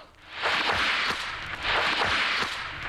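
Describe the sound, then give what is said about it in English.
A bullwhip is swung twice as the page-turn signal in a Raiders of the Lost Ark read-along, each loud hissing swish ending in sharp snapping cracks, with a short pause between the two strokes and no voices. “You will know it is time to turn the page when you hear the bullwhip crack like this.”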